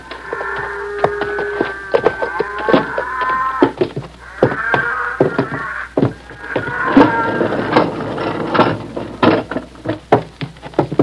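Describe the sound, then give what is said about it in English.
Cattle low repeatedly inside a barn, long drawn-out moos rising and falling against scattered knocks and shuffling, with no one speaking. “Come in the barn a minute, Doc.”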